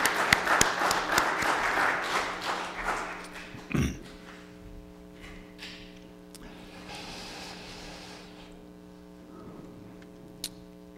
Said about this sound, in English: Praise God, you're graduating and going on to do things that will hopefully help people. Amen. Let's, how about a, did we do a round of applause?